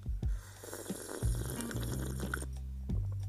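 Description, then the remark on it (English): A drawn-out slurp of someone sipping hot coffee with Baileys in it from a mug, wet and airy, with a short second pull near the end and no talking. “Let me take a little sip of my coffee.”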